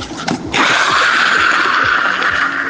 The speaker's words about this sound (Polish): Hamowanie hamulcem nie jest efektowne, bo to będzie po prostu ślizg na plastiku. To jest tak samo, jak ja bym zrobił takie coś, patrzcie.